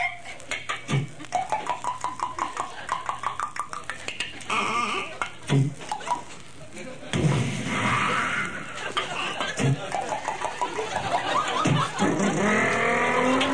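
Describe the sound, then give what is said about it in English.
Race car engines rev and drop in quick stepped bursts as a car coming into a corner downshifts from fifth gear through fourth, third and second to first, loud, with tire squeal and rattling clatter mixed in. “He's coming into the corner. Shifting on fifth gear, fourth, third, second, first, around the corner.”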